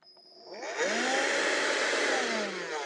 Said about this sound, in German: Er heißt Kobold VC100. Ist ein kleiner Handstaubsauger. Und jetzt wollte ich euch nochmal demonstrieren, wie leise diese Geräte von Vorwerk sind.